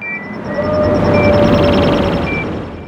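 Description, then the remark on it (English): A sustained, roaring TIE fighter whoosh built from a bunch of different bird chirps layered on top of each other, with a rapid high twittering pattern and thin whistling tones over a dense rushing body that swells and fades across three seconds. “And this version, I used a bunch of different bird chirps layered on top of each other.”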